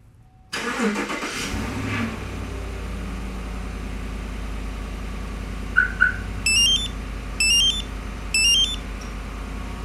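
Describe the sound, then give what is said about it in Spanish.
A car engine suddenly cranks and starts up through a CompuStar alarm's automatic remote start, then settles into a steady low idle, while a pair of quick chirps and three short, high electronic beeps sound over it. “Alarma que cuenta con encendido automático.”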